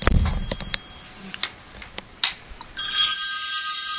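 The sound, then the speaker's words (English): A few sharp clicks and taps give way to a telephone ringing, a steady, bright electronic trill that starts near the end and continues, fairly loud, with no one talking. “Is that your shoe phone”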